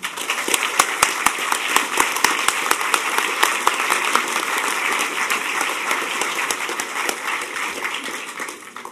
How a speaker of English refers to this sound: So I think if anybody deserves a round of applause, it's these guys.